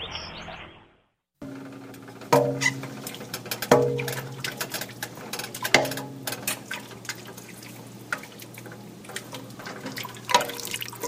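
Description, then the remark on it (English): A wooden spoon stirs a soup pot of chicken stock on a heating burner, with liquid sloshing and a few irregular hollow knocks against the pot's side over a steady low hum. No one speaks. “You can hear that wooden spoon bumping against the side of the pot.”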